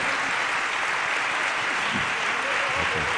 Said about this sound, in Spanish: Que es fascinante, qué capacidad didáctica y humana más extraordinaria tiene Carlos Álvarez, al que le quiero agradecer con un aplauso sincero que nos haya venido a ver esta mañana a este malagueño.